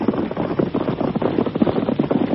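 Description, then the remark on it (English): Rapid, rhythmic hoofbeats of galloping horses, riders approaching with a sheriff riding in front, drum steadily and fairly loudly for a couple of seconds, with no voices over them. “Here they come. It's all right. That's the sheriff riding in front.”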